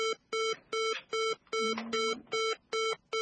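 A telephone line tone after a dropped call: a steady, rapid run of evenly spaced beeps, about seven in three seconds, clear and alone, with a brief faint warble partway through.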